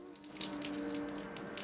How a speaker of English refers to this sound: Sammy takes a shower.